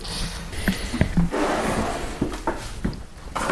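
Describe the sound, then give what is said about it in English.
A wooden drawer holding a poster-size original document between sturdy pieces of cardboard slides open with a scraping, rumbling rub, punctuated by several sharp knocks and clicks across a few seconds, moderately loud with no talking. “If I just pull this drawer open, and I'll show you what we've got.”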